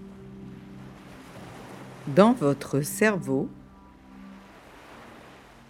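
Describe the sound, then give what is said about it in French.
Soft ocean surf washes steadily in the background, a low continuous rush of waves, while a calm voice speaks briefly in the middle. “Et les vagues vont et viennent.”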